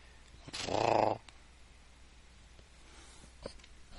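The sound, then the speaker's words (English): A sleeping cat purrs close to the microphone, held near it as someone leans in, in one short, rumbling burst of about half a second, followed by near silence broken only by a faint rustle and a soft tap. “Nardo is purring in his sleep.”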